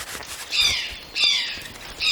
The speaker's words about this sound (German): Ha, den Ruf kenne ich. Das war ein Eichelhäher. Das ist dieser hübsche, rotbraune Vogel. Der hat so schwarze und hellblaue Streifen an den Flügeln. Ich habe mal gelesen, dass er zur Familie der Raben gehört.